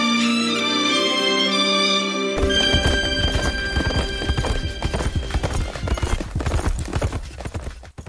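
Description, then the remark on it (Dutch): The hooves of a white Tartar horse clip-clop in a steady, brisk rhythm as it is ridden at the front of a group by Father Jules de Wolf, approaching the Siwanse mission post. The hooves start after a couple of seconds of sustained droning musical tones that continue underneath. No one speaks. “Pater Jules de Wolf op een witte tartaarpaard reed voorop”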